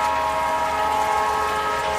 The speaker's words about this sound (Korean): 어이, 기차가 들어오는 소리요!